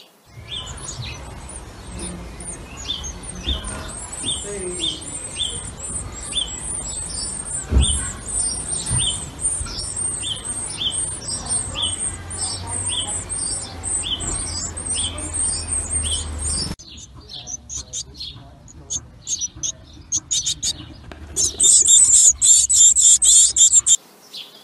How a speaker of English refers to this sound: of video will actually show the baby birds tweeting through that hole. I managed to get a bit of video, and there's this little beak coming up, squawking and cheeping.